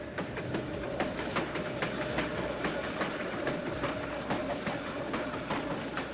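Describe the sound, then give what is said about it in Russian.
A train carriage rattles along the rails with a steady low rumble and a run of sharp, irregular clacks and knocks, continuous, with no voices. “Трясясь в прокуренном вагоне, он стал бездомным и смиренным.”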